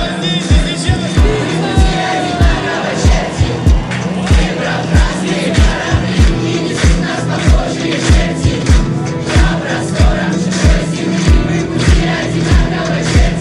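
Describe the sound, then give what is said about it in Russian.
A loud crowd applauds and cheers continuously as a band is welcomed onto the stage, with a steady pulse of deep thumps beating about twice a second underneath the noise. “Наши аплодисменты, встречайте!”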